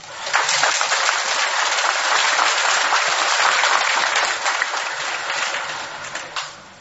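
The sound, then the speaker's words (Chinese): An audience at a Buddhist dharma talk claps in a steady, unremarkable patter for about six seconds, never swelling into a roar, then thins out and fades. Polite, lukewarm applause with no voices or cheering. “鼓掌鼓得不热烈，因为没听懂，稍微讲的深一点就听不懂了。”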